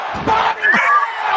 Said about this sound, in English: With that body slamming, and the crowd goes,